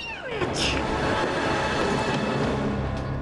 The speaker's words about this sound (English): As Lily runs off the train, the doors close and it pulls away.